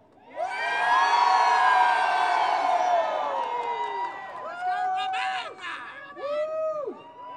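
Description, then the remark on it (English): A large rally crowd outside a parliament building roars and cheers loudly for several seconds, a dense wash of overlapping voices, then fades into scattered whoops and individual shouts rising and falling in pitch. “And make sure that the parliamentarians inside that building hear us roar.”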